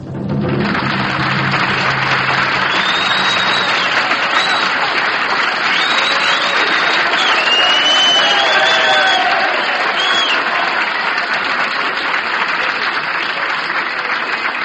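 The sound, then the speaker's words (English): Sustained, loud applause from a large audience, with scattered whistles and cheers rising above the steady clapping throughout, greeting a bandleader at the Palm Gardens in Columbus, Ohio. “Magnificent rubato movement and applause here.”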